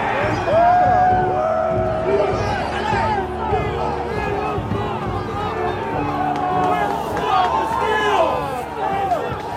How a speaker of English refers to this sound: We watch them rush past the police and start pushing against the doors, trying to break the glass. And then we saw the doors crack open and people started to flood through them. They're in.